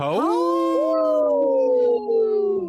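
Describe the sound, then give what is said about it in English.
People imitate a wolf howl, a loud voiced wail that swoops upward and then holds a long, steady, slowly falling tone for a couple of seconds before breaking off. “Hey, let's give a big howl.”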